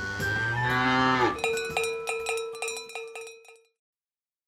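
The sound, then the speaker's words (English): A cow lets out a long, low moo that sinks in pitch, then a cowbell clanks in a quick, steady run of about eight metallic strikes, each ringing briefly before the next. “100 bells, and we get 2 florins.”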